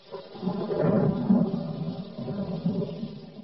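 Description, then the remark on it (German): A low, rolling rumble of thunder swells for a few seconds and lingers, heavy and continuous, with no voices over it. “Wie ein Feuer ist das, wie ein Blitz. Hört sie es donnern?”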